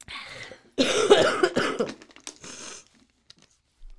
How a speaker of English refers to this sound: First, I'm going to cough into the tissues that Mike brought me in.